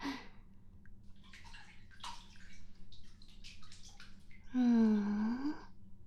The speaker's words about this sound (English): And the thing I am in, it's like a big square bowl filled with water. Very nice. Warm water.